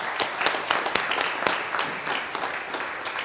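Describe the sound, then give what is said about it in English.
A crowd applauds steadily for a woman fighting cancer, many hands clapping in a dense, continuous patter with no voices on top, holding a fairly even moderate level throughout. “And we are going to give you a round of applause because you are a cancer warrior.”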